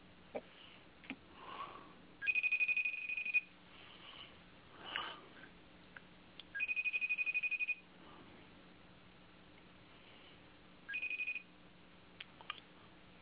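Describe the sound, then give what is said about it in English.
A FaceTime call rings out in three bright, high-pitched electronic bursts, the last one shorter, with faint rustles and sniffs in the quiet gaps between rings and no one talking. “FaceTime.”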